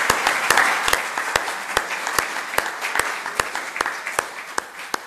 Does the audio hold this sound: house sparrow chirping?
no